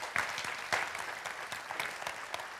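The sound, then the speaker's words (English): An audience claps their hands together as praise to the Lord, a dense, sustained round of applause with a few sharper accents standing out from the steady crackle. The clapping is moderately loud, with no talking. “Now give the Lord a hand clap of praise.”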